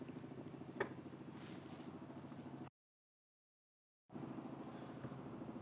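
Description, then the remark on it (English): A steady, rhythmic mechanical drone of a helicopter passing during a church service, with a low pulsing thrum that cuts out completely for over a second before resuming. “It seems we have all the vehicles today. We have a truck and now a helicopter.”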